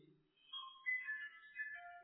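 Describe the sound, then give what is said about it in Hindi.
A mobile phone belonging to one of the women present rings faintly, playing a short electronic melody of overlapping high tones for about two seconds, with no one speaking over it. “भाई मोबाइल इन बहनों के बंद कर दो।”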